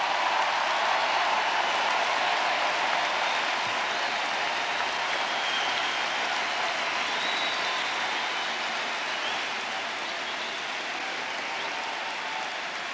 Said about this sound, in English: You cheer now because you know this is true. You know this is true.